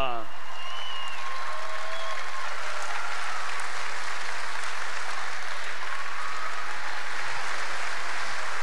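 A large audience applauds steadily, a dense, sustained roar of clapping that holds at an even level throughout, with a few faint whistles and cheers rising above it early on, applauding coach Olivier Crumbles at his induction into the Hall of Fame.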